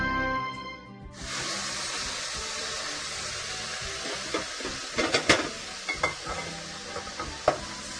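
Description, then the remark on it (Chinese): Meat sizzles loudly as it hits a hot nonstick pan over fairly high heat, settling into a steady crackling stir-fry with occasional sharp pops and scraping stirs, without talk. “最好我们还是用这种不粘锅哈，不粘锅的话呢，比较不容易把，这个肉呢炒下去会黏啊。”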